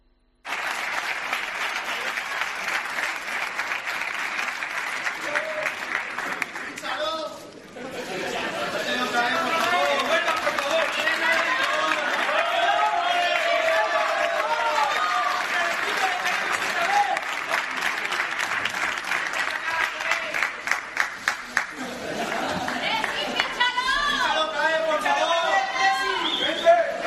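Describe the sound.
A stadium crowd shouts and cheers in a loud, continuous roar, briefly dipping early on before surging back, with massed voices rising into chant-like shouts of "fíchalo" (sign him) near the end, as Cristiano embraces someone at his first reunion with Juventus since leaving the club.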